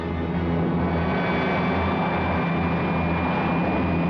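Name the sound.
airplane engine roar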